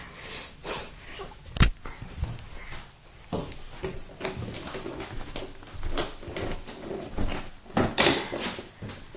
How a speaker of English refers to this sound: Blow your nose. Blow.